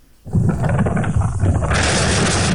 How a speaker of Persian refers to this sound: هنوز اندکی از ساعت 5 صبح سپری نشده که صدای انفجار مهیبی در دل کوههای قائمیه در حاشیه زاینده رود میپیچد. انفجار با نیروگاه برق اصفهان، قدیمی ترین نیروگاه برق این استان، ارتباط دارد.